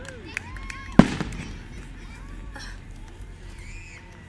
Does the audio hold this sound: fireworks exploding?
yes